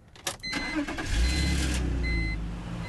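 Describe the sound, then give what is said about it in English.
A car engine cranks and catches with a few sharp bursts, then settles into a steady low rumble as the vehicle pulls away, fairly loud, with faint high tones above: a Wheels shared car started with the key from its glove box and driven off. “And then you just pop it in and drive away.”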